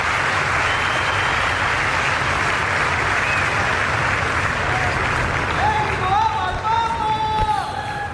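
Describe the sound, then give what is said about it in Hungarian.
A large audience claps continuously and loudly for several seconds, a dense, steady wash of applause greeting and thanking the Holy Father for his catechesis; near the end a faint tonal voice or music line rises above the clapping. “Kedves Máre Rádió hallgatók, a szokott módon tapsal üdvözlik, köszönik meg a Szent Atya mai katekézését, amely a Szentírás és a Szent Hagyomány közötti kapcsolatról, mély kapcsolatról szólt”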